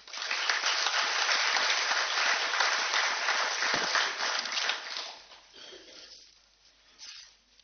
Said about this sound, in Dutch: Mag ik voor jou ook een applaus?